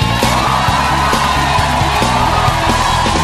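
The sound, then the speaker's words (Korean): An audience cheers and shouts loudly to the Lord for several seconds, a dense, steady roar of whoops and yells with a rhythmic low thumping running underneath. “주님께 일렬을 다해 환호.”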